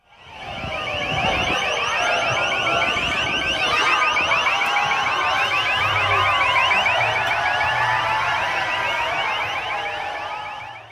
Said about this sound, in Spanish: Pero el desorden callejero fue tal que hubo choques con la policía, sirenas, gritos y gases.